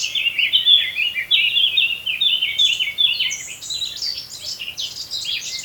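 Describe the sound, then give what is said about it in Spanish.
A male blackcap sings a continuous, rich, fluty warbling song of rapid fluttery phrases, clear, answered by the female's dull clicking from thick undergrowth, over a soft outdoor hush in a valley. “El canto aflautado del macho de la curruca capirotada encuentra respuesta en ese sordo chasquido que le devuelve la hembra desde la espesura”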